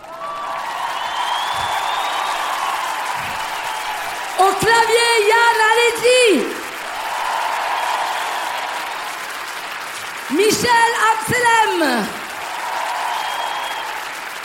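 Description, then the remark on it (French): An audience claps steadily and continuously throughout, welcoming the show's symphony orchestra, a dense wash of applause that stays loud while a man shouts two brief announcements over it. “Je vous demande maintenant de réserver un accueil triomphal à notre orchestre symphonique enfoireux.”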